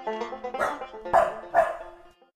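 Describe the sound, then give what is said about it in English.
Dogs bark three times in quick succession, each bark short and fairly loud, over a steady tonal hum that carries through the whole moment; no one speaks. “When they reached the edge of the swamp, the boy jumped down and rejoined his faithful dogs who had followed behind.”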